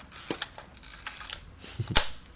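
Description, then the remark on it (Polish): A few small mechanical clicks and rattles lead up to one loud, crisp clack of the shutter of a 1987 Hasselblad medium-format analog film camera near the end, with no voices. “Najfajniejsze w tym aparacie jest dźwięk migawki.”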